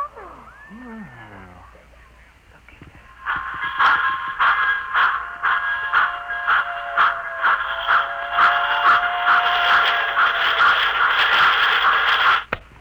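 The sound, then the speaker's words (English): A complete miniature model railroad, reduced to the size of a cigar box and set in a suitcase, runs: after a few quiet seconds with faint sliding tones, a loud, steady mechanical whirring starts, with rapid rhythmic clicking and a sustained high whine, then cuts off abruptly. “Hey, as you can see, I have in this suitcase a complete model railroad reduced to the size of a cigar box.”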